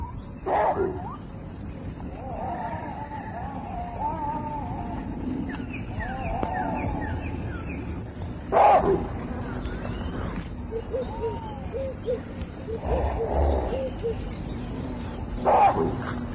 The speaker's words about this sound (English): The warning coughs of baboon bring the bushmen to a halt. Anxiously they listen to the sound.